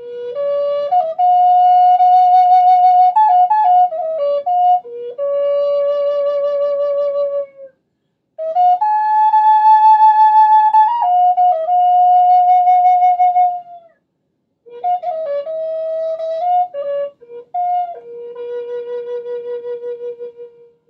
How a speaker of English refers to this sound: Native American flutes are similar in construction to a recorder. Air is blown gently into one end, and the pitches change by covering and uncovering finger holes in the body of the flute.